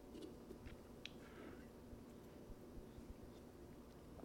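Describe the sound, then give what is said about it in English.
Quiet sipping of coffee: soft slurps and mouth clicks, a brief swallow in the middle, over a low steady hum with no talking. “A sip of coffee and then my almost worst play.”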